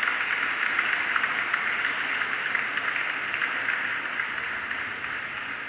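human body sound, hand clapping

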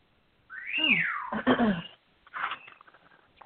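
bird, bird whistling

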